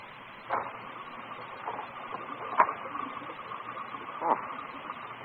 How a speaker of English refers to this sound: I could have sworn I heard someone knock at the door. Must be my imagination.